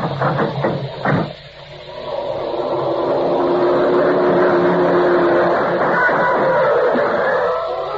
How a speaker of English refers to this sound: The black sedan pounded by on all 12, and Quinlan folded up like a playpen in a high wind. We tried to follow the car, but it would have been easier to win the Kentucky Derby on a pogo stick.